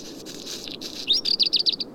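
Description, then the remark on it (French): Small birds on mountain summits, including alpine accentors, a black redstart, a small group of finches and a lone robin, chirp in quick, bright bursts, with a rapid run of high tweets near the end over a soft low background hum; no voices. “Ils se sont joints à un petit groupe de pinsons et d'un rouge-gorge solitaire, plus fréquent sur les basses terres et les boisés.”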